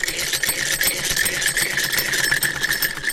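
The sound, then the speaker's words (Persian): An old sewing machine, used to sew clothes for customers, runs steadily with a dense, rapid mechanical whir and fine rattling stitches, a bright band of noise holding even and loud throughout with no voices. “اینمی لباسایی را که می بینیم بند است، تمامش توسط از این ماشین دوختیم که از مشتری ها است.”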